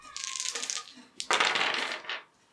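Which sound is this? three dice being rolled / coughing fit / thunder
three dice being rolled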